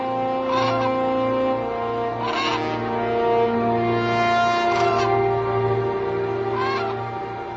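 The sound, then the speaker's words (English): Cranes call loudly, a run of brassy, trumpeting notes overlapping one another almost without a break for several seconds, with no voices present. “When we hear his call, we hear no mere bird. We hear the trumpet in the orchestra of evolution.”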